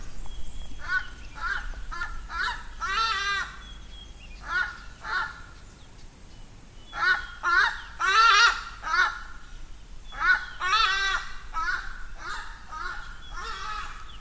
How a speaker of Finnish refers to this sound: Siinä ikään kuin loppulauluksi parkaisi joku paikallinen lintu, en nähnyt tarkemmin mikä se oli, mutta kaunis oli ääni ja kaunis oli lintu.